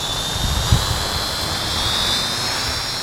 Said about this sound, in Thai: เสียงเฮลิคอปเตอร์บังคับทางไกลที่จอร์ดี้มูนโยสได้เป็นของขวัญจากมารดาเมื่อเขาอายุอย่างน้อยนะคะ